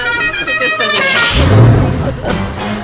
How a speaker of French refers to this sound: La cucaracha, le klaxon.